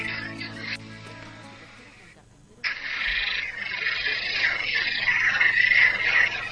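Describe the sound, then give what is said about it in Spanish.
A dense chorus of frogs croaking steadily, a busy overlapping chatter that drops briefly, then swells back louder and fuller, with a faint low hum underneath at first. “y el ruido de las ranas, pillado además para que ustedes lo escuchen, como habíamos prometido,”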